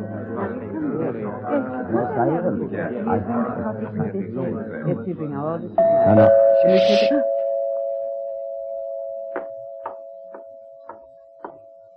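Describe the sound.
A voice talks, then the doorbell of a house with blue curtains in Lungby rings out as one sustained, clear chime tone that slowly fades over several seconds, with a few faint clicks underneath.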